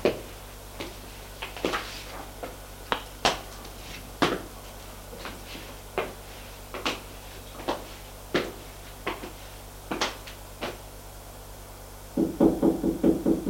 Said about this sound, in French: La vieille frappe une porte. Entrez.